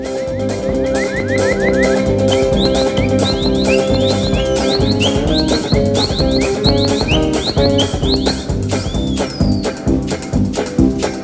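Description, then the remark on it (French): A French song with an ecological theme plays loud and steady, a driving beat and dense instrumentation with high electronic chirps darting over it like mechanical birdsong; no singing is heard in this stretch. “On retrouve pour se faire une chanson un petit peu écologique”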